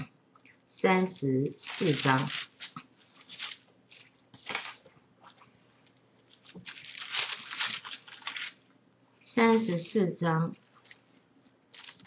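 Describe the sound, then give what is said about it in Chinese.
Several bursts of papery rustling and flipping, like pages being turned in a book to chapter 34, verses 5 to 9, come in short clusters, with quieter scraping in between and no speech. “那我们再看最后一个地方，34章5到9节，请我们往后翻。”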